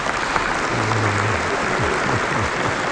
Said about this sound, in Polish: No i brawa dajmy jakieś, no, żeby tak nie...